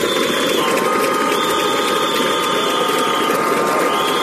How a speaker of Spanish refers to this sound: No en Alcoa, sino ante la sede de la subdelegación de gobierno, claro. Pitos, aplausos, bueno, están ahí como tamborileando con los cascos, dando con los cascos en el suelo en este preciso instante. Tremenda pitada ante la subdelegación de gobierno